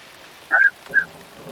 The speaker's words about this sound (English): Oh, that is some heavy rain. Yeah, that's pretty loud. Sounds quite pleasant, actually.